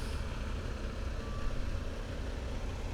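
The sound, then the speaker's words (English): A heavy dump truck's engine rumbles steadily as it backs up into position to feed a paver during road paving, with a faint, brief reversing beep barely rising above the low diesel drone. “And the other trucks that are in line each take their turn backing up, getting into the ready position.”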